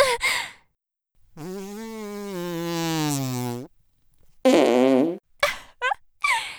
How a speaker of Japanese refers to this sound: おならぶっかけられて反応しちゃうってことは、 君は変態さんなの？